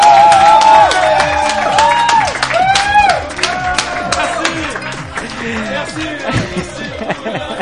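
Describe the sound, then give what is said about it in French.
A crowd applauds the guests loudly and steadily, dense overlapping claps filling the space, with cheers and excited voices rising over the clapping throughout. “Qu'on peut bien vous applaudir très fort.”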